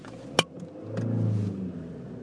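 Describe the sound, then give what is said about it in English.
A sharp click, then a brief cranking burst as a car engine catches and fires up into a low, steady rumble that swells and settles to an idle. The car is restarted in very slow-moving traffic while snow falls. No one speaks. “Hold on, I've got to start the car.”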